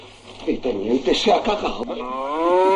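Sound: cow mooing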